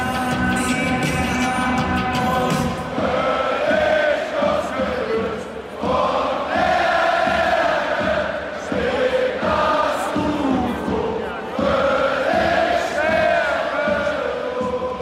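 A large crowd sings together in a loud, continuous chant, the massed voices holding sustained, wavering notes over a dense roar of cheering with no pauses.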